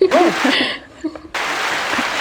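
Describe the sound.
A brief chuckling voice, then after a short pause a canned applause effect from a soundboard applause button cuts in abruptly: a steady, dense wash of clapping at fairly loud level that runs to the end.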